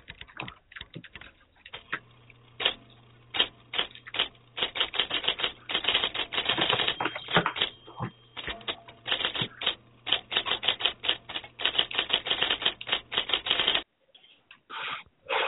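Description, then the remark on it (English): Rapid mechanical typewriter keystrokes clatter in dense bursts for about fourteen seconds, loud, with a steady faint hum beneath, then a few scattered clicks after a brief pause. “Miranda, you said a typewriter. Alex, you said a typewriter. You are both correct”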